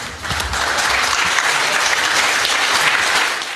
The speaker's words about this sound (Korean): 역사적인 안락사 허용법이 화요일 밤 서부 호주 의회를 통과하자 이 법안을 지지하는 이들이 환호하고 울먹이는 모습이 의회 안팎에서 연출됐습니다.